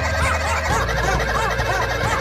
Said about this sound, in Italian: Cercate di riconoscere anche gli animali magari. Un gallo, quello che si sente sotto.